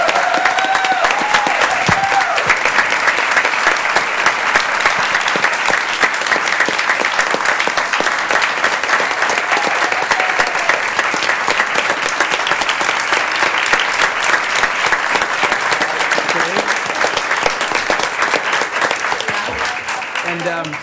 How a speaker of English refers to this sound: let's give her another round of applause.